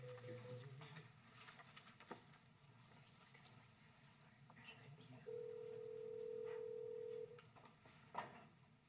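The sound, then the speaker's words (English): A steady telephone dial tone hums for about two seconds amid faint background room noise, preceded by brief dialing tones and followed by a short click. “So if you could get Mr. McIntyre on the phone for me.”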